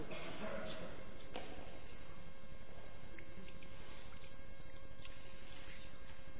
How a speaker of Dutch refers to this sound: Als jij het water erin wil gieten, wil jij het deksel er dan afhalen?